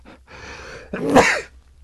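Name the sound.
sneeze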